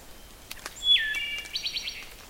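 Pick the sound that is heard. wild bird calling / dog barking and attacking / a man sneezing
wild bird calling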